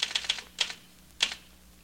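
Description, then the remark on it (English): Quick keystrokes clatter in short bursts: a rapid run of taps, a pause, two more taps, then one final sharp strike. The typing is crisp and fairly quiet, with no voices. “You're typing and I'm trying to read this newspaper item to you.”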